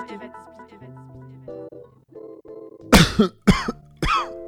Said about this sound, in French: Oh là, tu tousses papa, j'espère que t'as pas chopé quelque chose.